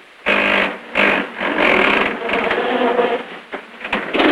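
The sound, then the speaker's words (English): A roadster's engine cranks loudly as the driver tries to start it after swerving into a pole on a deserted street, the starter whirring and grinding in several stuttering bursts with brief pauses, never catching or turning over. “At the wheel, Tony grimaces in panic as he tries to start the engine.”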